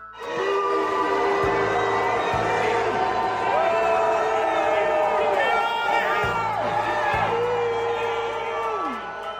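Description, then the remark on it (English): A large crowd at Washington, D.C.'s Union Station boos Defense Secretary Pete Hegseth and Vice President J.D. Vance loudly and continuously, with long, sliding drawn-out boos rising and falling in pitch over a dense roar of shouting voices for about nine seconds. “another episode of our continuing series, People Booing Republicans”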